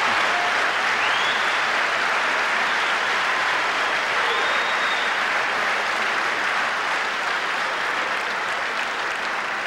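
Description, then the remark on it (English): Sustained applause from a large audience fills the whole stretch, a dense, steady wash of clapping with a few faint whistles rising above it, loud and unbroken from start to finish. “I can see from your applause, sisters and brothers, that you agree with the report.”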